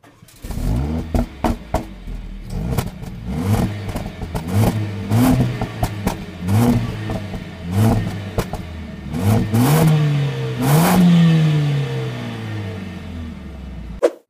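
A loud engine of a car that once held a record revs repeatedly, rising and falling in pitch as it accelerates through several gear changes, with sharp clattering bursts between shifts and a final long climbing roar.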